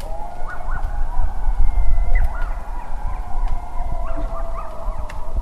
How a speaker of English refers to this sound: There are those intrepid souls who dare sing their love songs during these long nights, but they are a rarer breed than most. What comes to mind is the coyote's howl.